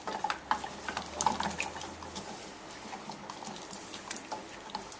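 Soft crackling and gentle bubbling from a saucepan on medium heat, with light scraping of a utensil stirring 1/3 cup of cream and 200 grams of melting chocolate, half dark and half milk; fairly quiet, with a low hum early on and no talking.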